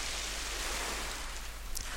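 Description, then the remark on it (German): A steady, hissing roar of ocean surf fills the whole stretch, a constant wash of waves at an even, moderate loudness with no voices. “Und du hörst das Brausen, das Angenehme der Wellen.”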